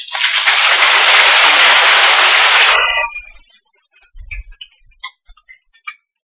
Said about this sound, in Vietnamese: Và dưới tràng vỗ tay này, chúng tôi cũng gửi lòng cảm ơn đến ban giám đốc trung tâm đã tạo điều kiện thuận lợi cho đoàn từ thiện Đạo Phật ngày nay có cơ hội đến chia sẻ đến quý bà con cô bác tại trung tâm trong nhiều năm qua.